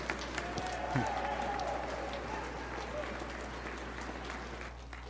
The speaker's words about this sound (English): So by your applause, I'm assuming you agree.